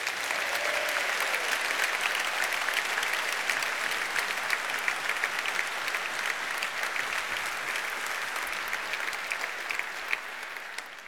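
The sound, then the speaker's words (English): Sustained applause from a large evening audience for a guest, a dense crackle of many hands clapping at once that stays steady and loud for around eleven seconds, with no voices rising above it. “a great inspiration to so many people, very clear from the applause.”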